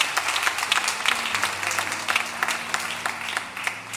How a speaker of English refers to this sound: Come on, church, give the Lord a hand, clap of praise. Amen.